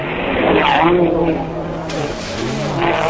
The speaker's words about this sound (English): Let's just listen to the wonderful sound of those cars.